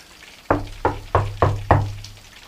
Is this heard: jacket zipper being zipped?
no